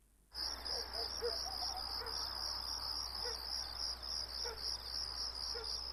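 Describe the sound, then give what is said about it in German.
A steady, shrill drone of cicadas fills the night air near the road from Khan Yunis to Rafah in the Gaza Strip, on the night of 26 to 27 December 2008, continuous and unbroken, with street dogs and a few faint, scattered chirps in the background and no voices. “Zikaden und Straßenhunde.”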